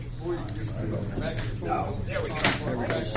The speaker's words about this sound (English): Go ahead and stand up, and I'll move your chair out of the way.